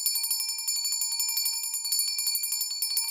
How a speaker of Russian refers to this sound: Традиционно символом последнего звонка является трель школьного колокольчика. Уважаемые выпускники, сейчас для вас прозвенит последний звонок.